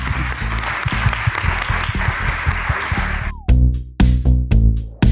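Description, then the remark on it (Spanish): An audience at a visual arts and distribution panel applauds the panelists steadily for a few seconds, a dense wash of clapping, before loud punchy music with heavy beats cuts in and takes over. “Pido un aplauso para ellas, por favor.”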